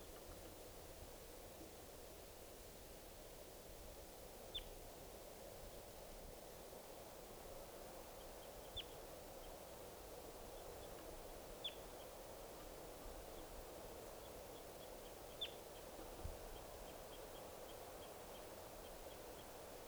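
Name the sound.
wild bird calls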